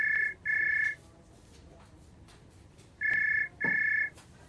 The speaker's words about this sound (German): Xaver und Tina dürfen das Krankenhaus verlassen und warten mit Anna auf Frau Besenbinder, als plötzlich das Telefon klingelt.